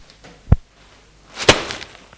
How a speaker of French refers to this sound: Don Francesco lui donne un coup de marteau sur la tête. Jean-Marie tombe. Il lui donne un autre coup.